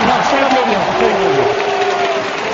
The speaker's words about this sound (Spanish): Ahí está el hombre aplaudiendo, se levanta. Parece que como si fuera del Madrid, Willy. Tengo la impresión.